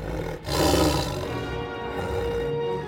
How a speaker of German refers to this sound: Aus dem Boden, der sich prasselnd öffnet, steigt empor ein flammend roter Tiger.